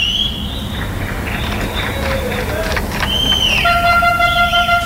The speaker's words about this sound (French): Et ça, c'est, je pense, je ne sais pas si les sons ils arrivent jusqu'à l'hôpital. Et c'est les gens qui tous les soirs vous applaudissent et vous soutiennent et vous disent merci.